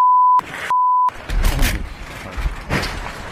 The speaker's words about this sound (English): a car accident happened behind him and a car missed him by like 1 foot. Here's the audio of it. And obviously it was a chaotic and confusing situation.